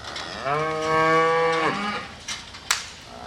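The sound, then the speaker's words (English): A single dairy cow lets out a long, loud moo lasting over a second, its tone rising then dropping off, followed by quieter farmyard background noise and a brief click, at Pagel's Ponderosa Dairy, a 5,000-cow farm in rural Kewaunee County, Wisconsin. “There are 5,000 cows here, some on the loud side.”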